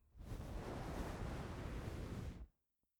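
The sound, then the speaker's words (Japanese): A hot towel is laid over the face during a shave of fine facial hair, making a muffled cloth rustle that holds steady for about two seconds and then cuts off into silence. No one speaks. “お顔にホットタオル、失礼しますね。”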